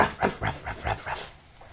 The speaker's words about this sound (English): Dog.